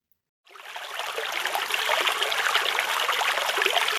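Water trickles and babbles steadily in small streams of spring snowmelt that gather into larger streams running to a river, a continuous bubbling rush that starts abruptly after a brief silence, with no voices present.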